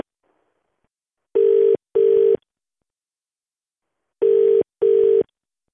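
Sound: phone call ringing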